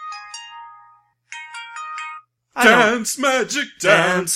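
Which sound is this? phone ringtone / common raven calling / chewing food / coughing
phone ringtone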